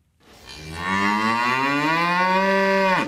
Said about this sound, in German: Eine Kuh macht Mu, viele Kühe machen Mühe, heißt es.